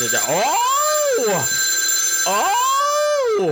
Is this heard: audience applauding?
no